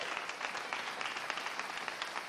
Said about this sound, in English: So I want to applaud every father that is in church today.